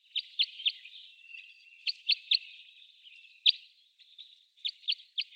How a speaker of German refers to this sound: Dann als Jip, Jip, Jip habe ich das beschrieben. Dann war das, was war das noch schnell? Ich habe schon wieder vergessen. Ach, der Kreuzschnabel, natürlich.